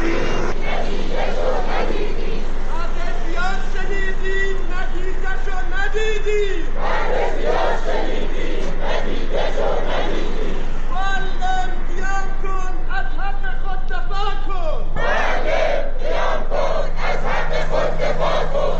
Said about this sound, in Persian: معلمان در خرم‌آباد شعار دادند.